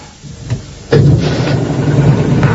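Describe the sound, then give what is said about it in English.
After a brief quiet moment and a small knock, the engine of a prototype compressed-air car with an aluminium chassis abruptly starts up and settles into a steady, loud running hum with no talking. “The key to an air car is to keep everything lightweight so you get the best possible mileage.”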